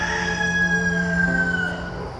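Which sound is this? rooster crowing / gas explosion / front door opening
rooster crowing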